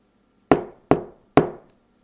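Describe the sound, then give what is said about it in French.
Three firm knocks on the wooden door of a manadier (herd owner), evenly spaced, each a sharp hollow thud that quickly fades, with no voices. “Il frappa à la porte du manadier.”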